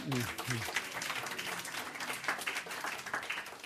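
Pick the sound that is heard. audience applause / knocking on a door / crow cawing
audience applause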